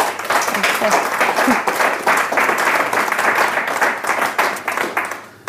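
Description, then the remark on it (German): An audience applauds to welcome Anja Illmeier of Intact Records, a dense crackle of many hands clapping at once, holding steady and loud for about five seconds before thinning out at the very end. “Begrüßt bitte mit einem herzlichen Applaus Anja Illmeier von Intact Records.”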